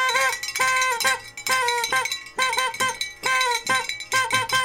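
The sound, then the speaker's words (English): A small, broken bell, rung while thanking donors, rings over and over in quick, uneven bursts, each strike giving a bright, loud metallic tone with ringing overtones. No one speaks. “Ah, my bell's broken. Don't worry, I'll fix it.”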